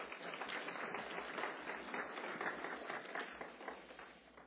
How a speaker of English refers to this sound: Give a round of applause to our friends.